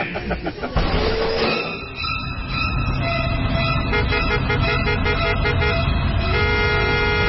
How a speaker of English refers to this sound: I'm in traffic.